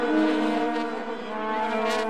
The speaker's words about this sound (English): If you've caught World Cup fever, then you know that sound. South African stadiums are buzzing with it. It's the vuvuzela.